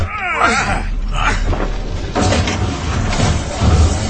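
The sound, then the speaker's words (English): Heavy metal elevator doors at the bottom, level 9, grind and scrape as they are forced apart using the butt of a weapon as a lever, with a creaking, groaning screech early on and jolting clanks and rumbles throughout, loud. “Let's get the doors open.”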